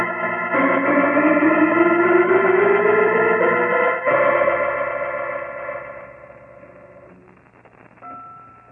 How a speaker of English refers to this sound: Holmes, great Scott! Listen to those bells! Yes, Watson, something's gone wrong. Sounds as though young Griggs has suddenly gone mad.